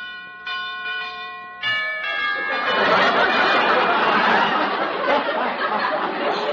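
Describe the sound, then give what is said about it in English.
A doorbell at a house, rung in the dark, chimes two clear ringing tones, one after the other, then gives way to a loud, sustained, noisy ringing wash that fills the rest of the moment. No one speaks. “Where's the bell? Oh, here it is.”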